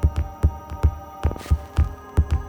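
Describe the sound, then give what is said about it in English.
A fast, pounding heartbeat thumps in quick doubled beats, deep, with a low hum underneath and no voices. “She walked directly there, her heart beating so fast and powerfully, she was afraid it would explode in her chest.”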